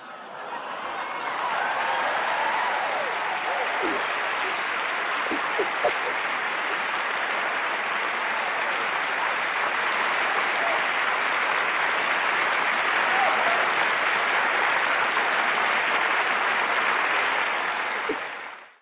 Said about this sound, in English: just let's clap it up for you right now. Just clap it up.